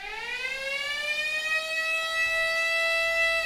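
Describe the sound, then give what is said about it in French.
A curfew air-raid siren wails steadily, its tone rising at first and then holding a long, loud sustained pitch with strong harmonics, with no voices over it. “Le couvre-feu ! À la deuxième sirène, on s'en va.”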